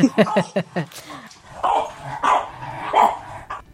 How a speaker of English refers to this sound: Some happy puppies there.